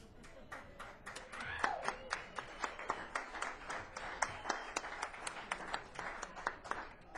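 audience clapping

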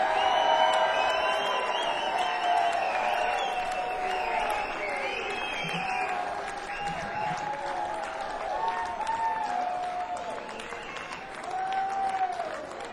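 audience applause and cheering

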